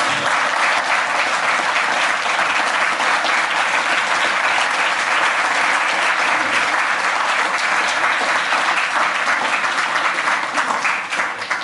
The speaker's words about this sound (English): All right, so... Join me again in a round of applause.